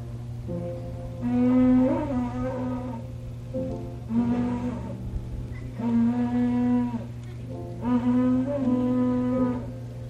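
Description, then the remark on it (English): A cow horn, blown by a minister to call campers to worship at a camp meeting, sounds four long, wavering blasts at a steady pace, each about a second and a half, fairly loud, over a constant low hum with no voices. “The minister called the campers to worship by the blowing of a cow horn.”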